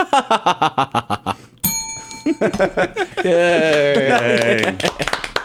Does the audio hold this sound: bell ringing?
yes